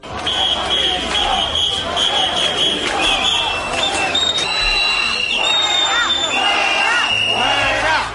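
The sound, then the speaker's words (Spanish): Hundreds of people boo and whistle loudly and continuously at Spain's prime minister and deputy prime minister arriving at an event, with several shrill, sustained whistles piercing a dense roar of jeering voices throughout. “Esto es lo que los servicios de protocolo de Moncloa querían minimizar en lo posible, los abucheos, los silbidos del público al gobierno, que en esta ocasión, pues esto ya depende del audímetro, ¿no?”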